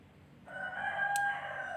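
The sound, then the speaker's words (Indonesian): A rooster crows once, a sustained cock-a-doodle-doo that starts abruptly and holds its call through to the end, with no talking. “mantap, backsound ayam jagoku.”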